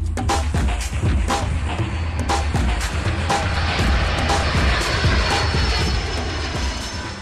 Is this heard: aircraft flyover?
yes